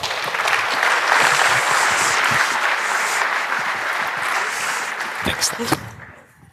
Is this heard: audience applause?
yes